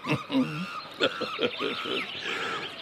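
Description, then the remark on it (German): Small birds chirp and twitter over a meadow in the morning, in quick, overlapping little calls, a busy cluster of short bright notes at moderate loudness with no talking. “Die Vöglein zwitschern.”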